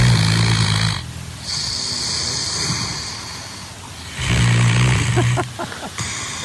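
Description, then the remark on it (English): A large dog named Fergus snores loudly, two long rumbling inhales separated by a quieter wheezy exhale, with a harsh, raspy texture and no talking. “Maybe he keeps himself super busy so that he's out of the house and away from his giant snoring dog, Fergus.”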